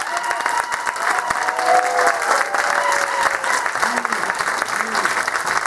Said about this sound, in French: Je vous demanderai d'applaudir grandement l'ensemble de mes musiciens qui me suivent pour la plupart depuis maintenant 20 ans.